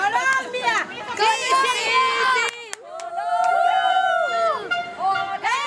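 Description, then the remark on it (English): A loud street crowd in Jackson Heights, many in yellow shirts, cheers and shouts after Colombia beat Japan, many voices overlapping in rising, sustained yells and chant-like calls, with a brief sharp pause mid-way before the roar swells again. “A few minutes later, Jackson Heights exploded in cheers, and a sea of yellow shirts flooded the streets after Colombia beat Japan.”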